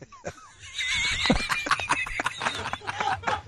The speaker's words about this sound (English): What sound does a horse make? I have no idea. Nay. Nay.